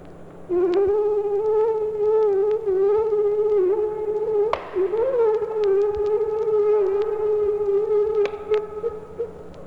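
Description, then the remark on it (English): A steady, high-pitched mosquito whine drones on continuously for several seconds, wavering slightly in pitch and loudness, alone with no talking. “Here's the sound of a mosquito.”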